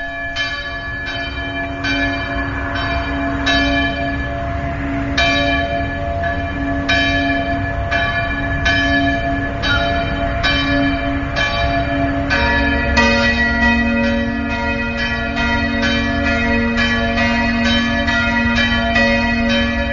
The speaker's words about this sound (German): Wir stimmen uns einstimmen mit dem Glockengeläut.